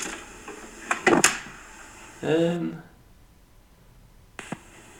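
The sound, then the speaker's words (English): A kitchen fridge door opening and closing: a few quick clunks and rattles, a short tonal creak, a pause, then one soft thump as it shuts. “It was the fridge.”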